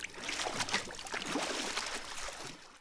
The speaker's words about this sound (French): Il tape dans l'eau avec son poing pour faire danser le poisson rouge et le canard en celluloïde. Il veut se mettre debout dans la baignoire. Il s'éclabousse la figure et sort la langue.